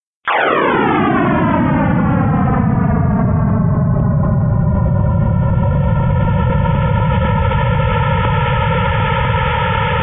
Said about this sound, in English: So here's his sound. So remember, the first million years of the universe.